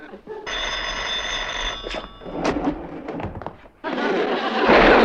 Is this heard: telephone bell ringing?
yes